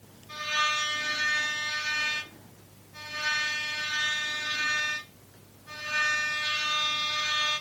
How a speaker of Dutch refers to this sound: We zagen vaak rode reddingsbootjes varen met stoere mensen erin. Ze hadden zwemvesten aan en een rode zwemband met een touw eraan in hun hand. Ze toeterden met grote toeters naar de zwemmers die te ver de zee in waren gegaan.